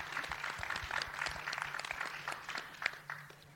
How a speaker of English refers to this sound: And I just want to applaud the cast. My goodness, that was incredible. Let's have a hand for the cast for that. That was epic.